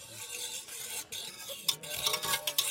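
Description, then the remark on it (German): A whisk stirs briskly through 1 litre of boiling water in a pot as 15 grams of curd soap dissolves, the water turning milky, bubbly and foamy: a steady wet swishing with light metallic clicks and sharper splashy bursts toward the end, with no voices. “Wir rühren mit Schneebesen um und es wird milchig, das Wasser, und blubberig.”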